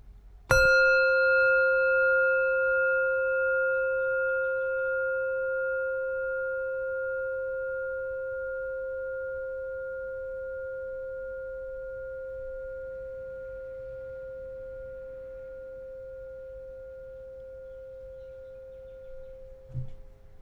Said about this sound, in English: Now let the sound of the bell take your focus inwards.